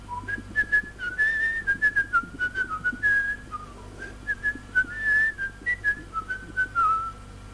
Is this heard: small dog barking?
no